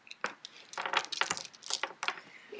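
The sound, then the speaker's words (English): Glass shatters in a bright, jangly clatter, with a run of sharp crashing hits and tinkling fragments spread over a couple of seconds, no voices. “You hear glass shattering, followed by several loud banging sounds.”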